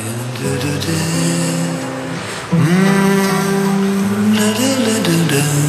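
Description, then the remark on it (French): The two-cylinder engine of a yellow Panhard sport coupé with a polyester body runs with a steady, buzzing drone, then revs up sharply and holds a higher, louder pitch for the rest of the time. “Avec sa panhard jaune coupée sport, une carrosserie en polyester et un moteur à deux cylindres.”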